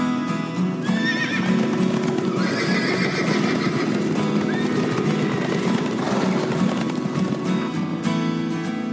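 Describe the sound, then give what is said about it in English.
Steady clip-clop of horse hooves runs throughout, with a loud whinny rising over the rhythmic hoofbeats early on and a few shorter neighs following. “What are they? Answer, horses!”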